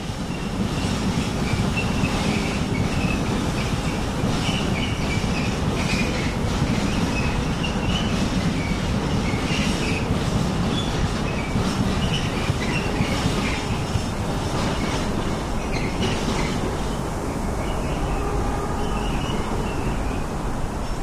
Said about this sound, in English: So would you like me, now that we're a bit away from the trains, maybe say something about, introduce myself.